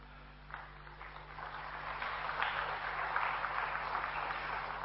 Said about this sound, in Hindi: तालियां आप लोग थोड़ा कम बजा रहे हैं। देखिए सुदूर ग्वालियर से आपके महफिल में आए हैं भाई, तो आप सबसे अनुरोध है कि तालियां बजाकर इनका स्वागत करें।